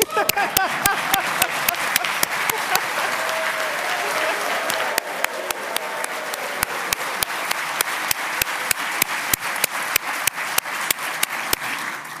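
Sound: applause in legislative chamber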